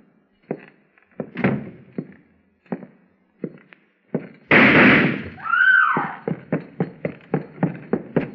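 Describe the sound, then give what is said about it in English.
Gunshots ring out inside a house as a gunman steps out of the parlor shooting the place to pieces: a few scattered sharp cracks, then a loud blast trailed by a swooping whine, and finally a rapid, steady volley of shots with no voices. “He stepped out of the parlor right after I closed the door, shooting the place to pieces.”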